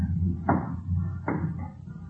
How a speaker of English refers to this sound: Ah, this confounded wooden stairway, it creaks, Holmes.